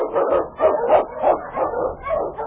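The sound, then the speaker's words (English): A pack of husky sled dogs, unchained and urged on, barks and yips excitedly in quick, overlapping bursts, loud, keeping up a steady, eager rhythm throughout, in Sergeant Preston of the Yukon. “Unchain! On your husky!”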